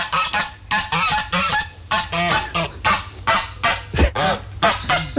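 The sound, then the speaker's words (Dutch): Egyptian geese honk in a rapid, continuous series of harsh, nasal calls, several birds overlapping loudly with no pauses, a sharp burst near the end. “Klinkt als een nijlgans. Een gans, inderdaad.”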